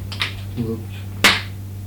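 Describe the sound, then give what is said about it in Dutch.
A single sharp hand clap rings out near the end, preceded by a softer tap and a brief murmur of voice, all over a steady low hum. “En dan gaan we weer klappen, et cetera.”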